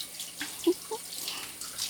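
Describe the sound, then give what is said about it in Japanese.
A steady, soft hiss of spraying shower water runs throughout, with a few brief low splashes or knocks near the start and no voices. “こうしてシャワーしてるだけでもミクロ”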